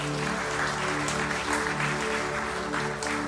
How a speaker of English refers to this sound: Amen? Come on, give the Lord an applaud today.